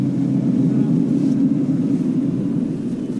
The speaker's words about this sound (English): The plane bounces down softly on a gravel landing strip.